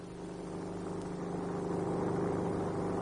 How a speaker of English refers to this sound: In the sky, sounding a new dimension to the search, a helicopter.